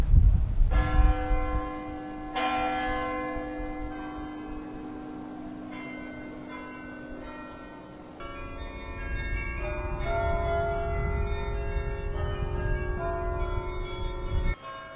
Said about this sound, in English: How is living in where you're from different from here in Amsterdam? Here, I have 3 churches ringing their bells every 30 minutes.